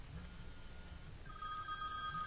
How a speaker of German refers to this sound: Oh, Achtung. Das Telefon schellt. Da ist es wieder.